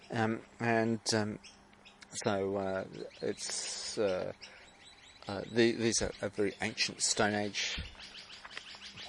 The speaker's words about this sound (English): Can you hear the birds at the background?